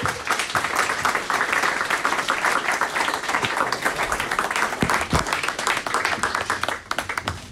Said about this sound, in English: You can give him a warm round of applause.